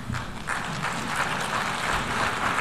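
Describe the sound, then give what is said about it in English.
A crowd applauds after a US president's speech to leaders of other countries, a dense, steady patter of many hands clapping that holds at an even level for a few seconds with no voices over it. “You heard applause there, right?”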